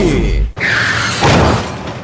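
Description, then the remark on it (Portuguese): A car crash: a low engine rumble cuts off abruptly, followed by a loud, harsh impact and shattering glass that rattles and scatters for over a second. “Bater o carro até vai.”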